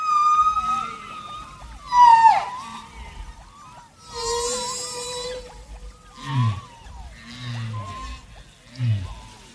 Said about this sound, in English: The UN greetings on this track are mixed with another sound, humpback whale songs. And by the track's end, the whale songs are the only sounds left.